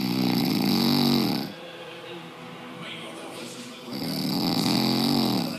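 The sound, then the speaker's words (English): A man snoring loudly in his sleep: two long, rasping snores about four seconds apart, harsh, with quieter breathing and faint background noise in the gap between them. “Sonia sent us one in last week. Her husband, …. We'll have a listen to that first.”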